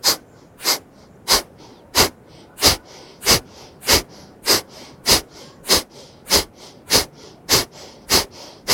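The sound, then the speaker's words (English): Rapid, forceful breaths pumped out through the nose in a steady rhythm during Kapalabhati yoga breathing, the belly pumping in gentle contractions, about fourteen sharp exhales in under nine seconds, fairly loud, with no talking. “As you pump the belly, you're building awareness in the core.”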